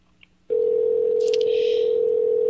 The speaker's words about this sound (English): Are they allowing us to get through? We might end up with a phone message. I don't think they're going to answer the phone, folks.